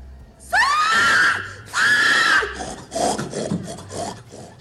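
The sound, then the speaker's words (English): A woman in a pig-calling contest lets out two long, loud, high-pitched pig-calling yells, each rising then holding, followed by a softer run of quick, choppy vocal calls. “It would be more interesting if there were a bunch of pigs and you scream and you yell, you make your pig noises, and if the pigs come to you, then you should get points for that.”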